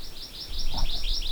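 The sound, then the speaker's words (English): A Hawaii amakihi gives a quick run of about eight high, zippy chirps, each sliding like a little laser blast, over a low background rumble. “The Namakihi sounds like they're playing laser tag.”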